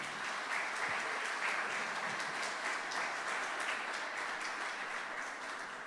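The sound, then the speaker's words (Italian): Sustained audience applause for Adriano Scianca, director of Il Primato Nazionale, a dense steady wash of many hands clapping at even loudness throughout, with no voices standing out above it. “Vi ho chiesto subito l'applauso e adesso vi spiego anche perché siamo qui, no?”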